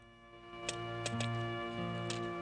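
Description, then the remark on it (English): A pine cone knocked against a hard cliff wall of rock, about five or six short, dry taps at an uneven pace, some grouped close together, over a steady low hum. “He knocks it against the hard cliff wall.”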